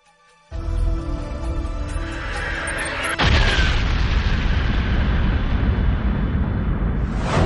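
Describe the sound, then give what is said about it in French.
A deep swelling rumble builds for a few seconds, then a loud explosion representing the Big Bang bursts in and rolls on as a thick, sustained roar to the end, with no voices. “Cette explosion émana d'un seul point il y a quelque 15 milliards d'années, à partir du néant.”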